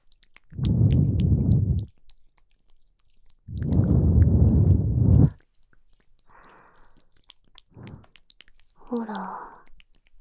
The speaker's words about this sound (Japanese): じゃあ、お耳にも吐息かけてあげますから、それで気持ちよくなってください。